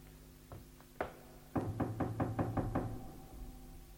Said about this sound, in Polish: O, to te drzwi. 89. Zapukaj.